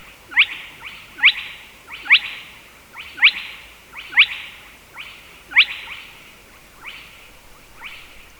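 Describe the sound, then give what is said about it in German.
A nocturnal bird call from waterlogged reeds, repeated about every second, each a short sharp upward note followed by a fading buzzy tail, steady and fairly clear against a quiet night background with no talking. “Und da haben wir diese Laute hier aus so vernässtem Schilf gehört.”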